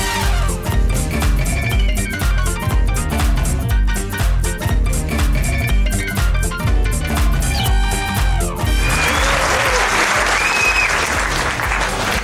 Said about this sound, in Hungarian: Talán a kedves hallgatók is érzik a spontán abba maradó tapsból, hogy ez nem egy őszinte, gerjesztetlen üdvrivalgás volt. Nagyon sok szeretettel köszöntünk mindenkit innen Nagyvázsonyból, a Dumavölgy humorvárból.